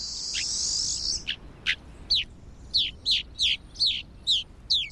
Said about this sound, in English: Their preference for extreme environments make rosy finch populations difficult to study.